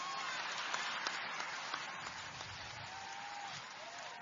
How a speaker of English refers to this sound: The child is clapping.